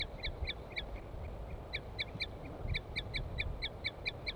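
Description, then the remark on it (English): A female bird gives a series of short, high tooping notes, repeated in quick rhythmic bursts, over a steady low background rumble. “And L5 is giving a weird call. Or song or something. Female tooping.”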